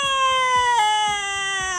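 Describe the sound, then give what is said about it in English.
A voice imitates a baby heard crying through a wall, with one long, loud, high wail that holds steady, catches briefly partway through, then drifts slightly lower in pitch. No speech. “Like a baby screaming? You can hear a baby like they're in the room with us”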